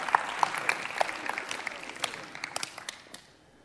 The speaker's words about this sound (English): Well, if we're going to clap, clap. Amen.